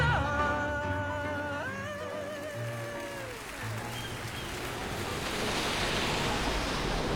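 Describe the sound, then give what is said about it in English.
Heavy rain pours down in Warsaw as a storm finally breaks after a hot and humid day, in a dense, steady roar that grows fuller toward the end. A wavering, tonal sound rides over it at first, then fades after a few seconds. “The storm's finally broken, the rainstorm coming down.”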